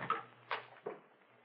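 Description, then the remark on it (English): A door swinging open, heard as three quick, muffled knocks and rattles spaced about half a second apart, quiet, with no one talking. “Swings open.”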